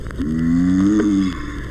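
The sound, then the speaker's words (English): A single long, low mating grunt of a giant tortoise at the San Diego Zoo, with a steady, slightly wavering harmonic tone, rising a little in the middle before trailing off, heard alone over a faint rumbling background. “This is the mating grunt of the giant tortoise.”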